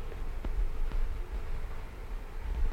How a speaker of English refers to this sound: The rain has started. Now the trees will be immensely happy. They will dance in the rain.